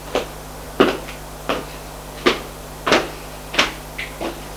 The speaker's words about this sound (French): Il frappe à une porte. Entrez !